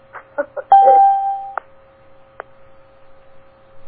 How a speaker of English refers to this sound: it's 7 a.m. I'm going to see if I can turn on the chimes today.